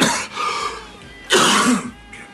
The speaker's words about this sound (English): Coughing's good. It opens up the capillaries, you know.